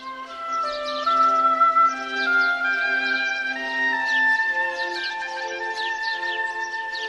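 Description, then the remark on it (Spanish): Birds chirp and trill in quick repeated bursts throughout, layered over a steady, soft background of sustained musical tones. No one speaks. “Érase una vez un reino donde todos eran felices y los pájaros cantaban alegremente.”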